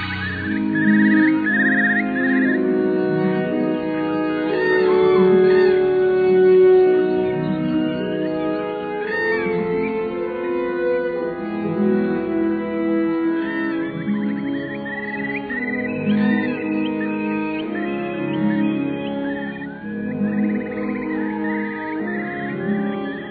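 Sustained orchestral strings swell and hold warm, low chords while recorded birdsong chirps and trills continuously over the top, the bird calls quick and high-pitched against the slow, steady music.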